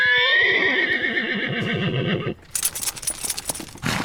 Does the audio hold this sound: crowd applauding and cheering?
no